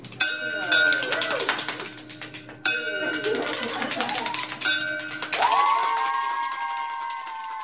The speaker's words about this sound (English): a 33-year-old software engineer, ringing the bell on his last day at MD Anderson Cancer Center in Texas. He just completed successful treatment for stage 4 bone cancer.